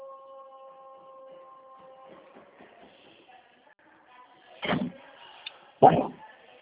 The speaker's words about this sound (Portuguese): para de abrir essa porta. Fecha essa porta.